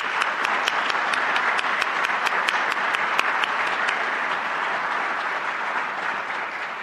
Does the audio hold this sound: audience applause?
yes